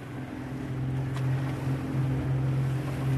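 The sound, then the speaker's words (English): A boat engine drones steadily with a low, constant hum, layered over the rush of wind and water as the vessel, carrying a team that has spent five hours at sea catching and tagging turtles, heads back across open sea; no one speaks. “After 5 long hours at sea, Nichols and his team have caught and tagged only one turtle”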